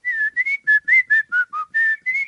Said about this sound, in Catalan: Mira, això és que és un xiulet, però en forats. Aleshores. Una cançoneta que podrien xiular els xiquets anant a divertir-se per ahir.